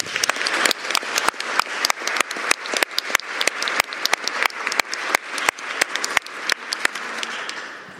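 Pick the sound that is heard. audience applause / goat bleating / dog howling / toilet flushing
audience applause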